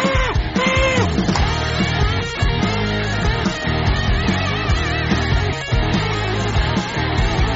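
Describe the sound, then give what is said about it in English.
A crowd cheers wildly, with overlapping yells, whoops and bellowing voices rising and falling in pitch, loud and continuous for the whole stretch. “Okay, and the crowd goes wild.”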